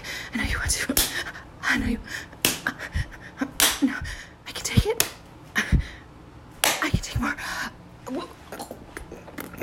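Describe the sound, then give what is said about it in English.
A series of sharp slaps to a face land at irregular intervals, each a loud smacking crack, mixed with gasps and short vocal noises between hits. “Come on, slap me more.”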